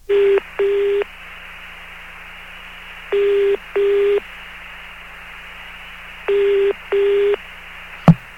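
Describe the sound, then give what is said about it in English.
An international telephone call to British Telecom in London, England, ringing through on the line, three paired double-ring tones in a steady rhythm over faint line hiss, ending with a sharp click as it connects. “I'm going to try the phone company over in England.”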